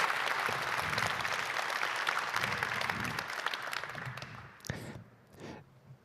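Steady audience applause fills a large room, dense and sustained for several seconds before thinning out to a few scattered claps near the end.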